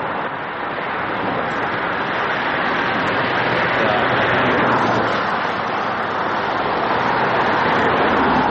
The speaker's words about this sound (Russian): Давайте посмотрим, как мы были в Монголии. Смотри, едет машинка.